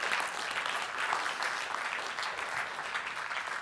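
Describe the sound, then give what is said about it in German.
A church crowd claps steadily in applause for a drawn board, a dense, even patter of many hands that holds at a constant level for a few seconds without any voices on top. “Hey, ich meine, können wir wirklich einen Applaus geben für die Tafel?”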